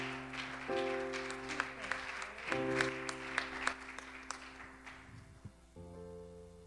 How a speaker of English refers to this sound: And why don't you clap? Come on, you can come on.